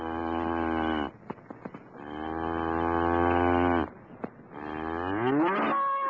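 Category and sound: animal, cow mooing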